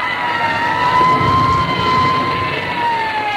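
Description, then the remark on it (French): A fire engine siren wails in a long, slowly gliding tone over a heavy engine rumble, loud and continuous with no voices, as fire engines race from point to point through Rome during a city fire. “Les voitures des pompiers couraient d'un point à l'autre, munies de lance-flammes et créaient de nouveaux foyers d'incendie.”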